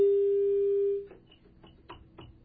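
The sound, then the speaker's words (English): A steady telephone dial tone hums for about a second, then cuts off, followed by several short, evenly spaced keypad tones as the digits of an international number beginning with 011 are dialed. “Yeah, do the 011 thing. Let's try that.”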